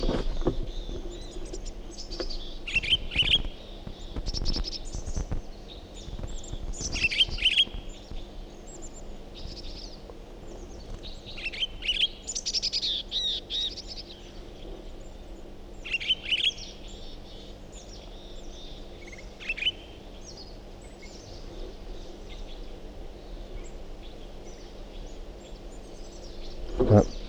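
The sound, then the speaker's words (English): Bird song: bursts of bright, high chirps and short trills come and go over a low steady hum, with some insect-like buzzing underneath. No voices. “Start recording the Pine Girl Speak again. Different bird.”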